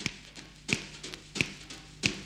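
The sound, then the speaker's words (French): Four sharp finger snaps land at a steady, even beat to start a swing rock'n'roll song, each a crisp bright click with a short tail, standing alone over a faint background hum. “Et on claque des doigts pour commencer.”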